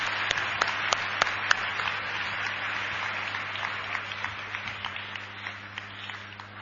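A crowd at an evening celebration applauds a guest steadily for several seconds, a dense wash of many hands clapping with a few sharper individual claps standing out, fading slightly toward the end. A low steady hum runs underneath.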